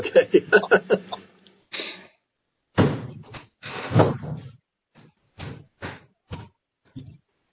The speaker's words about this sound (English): Yes, let me shut my office door.